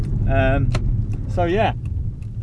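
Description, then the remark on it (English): A car moves slowly along as it pulls into a parking space, its low engine and road rumble steady throughout, with two brief voiced sounds from someone inside rising over the hum. “Anyway, I'm pulling into the last bit of where I need to park, so I need to park, and I'm not very good at parking at the best of times.”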